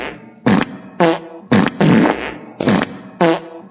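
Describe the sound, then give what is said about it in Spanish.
Five loud, buzzy fart sounds from cows at a farm in Radford, Germany burst out one after another in an uneven, almost rhythmic sequence, each lasting about half a second, with no talking. “Ya van 10 vacas las que se han tirado un pedo a la vez.”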